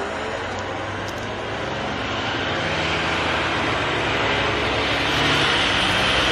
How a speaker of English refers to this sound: Oh, fire truck. I was expecting that to be a garbage truck. It had that sound to it. It's coming up from behind me.